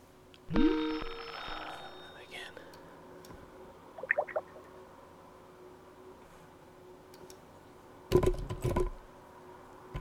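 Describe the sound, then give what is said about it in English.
A telephone ring sounds once near the start, a bright electronic tone, followed later by a couple of short chirps and a brief burst of clattering, with no one speaking. “I'm actually just listening and picking up the phone every time it rings.”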